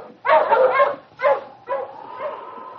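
animal, sled dog team barking

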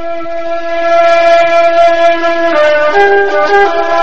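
vehicle, train passing

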